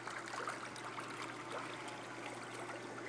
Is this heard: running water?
yes